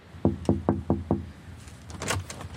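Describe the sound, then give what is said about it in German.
Five firm knocks on the door of the Archiv Schreibende ArbeiterInnen, whose doorbell is broken, in a quick, even rhythm, each a dull low thud, followed by a brief scraping, rustling noise as the sounds die away. “Da die Klingel kaputt ist, muss angeklopft werden.”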